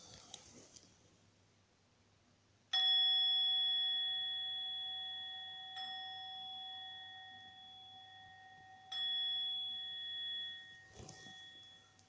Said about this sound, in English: So bringing the practice to an end with the sound of the bell.